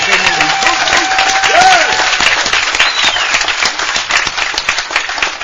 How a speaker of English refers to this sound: And this committee deserves a tremendous round of applause from us, I'll tell you.